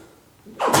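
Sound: sneeze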